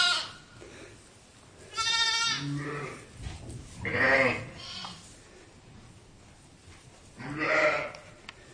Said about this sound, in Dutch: Kijk, dit zijn kraamhokjes. Hier zit de moederschaap met pasgeboren lammetjes. Is het niet schattig?